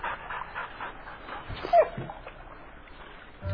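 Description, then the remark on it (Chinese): A dog yips and whimpers in short, excited bursts, with one louder bark near the middle, against a faint background hiss; the dog is on a boat with its fishing owner and reacts after a flying creature strikes the owner's head. “啊，钓鱼的人唔知，啊，这只狗啊看见，这只露丝竟然打伊主人的头，所以就甲飞，主人唔知伊咧飞什么，因为迄只露丝已经飞去啊。”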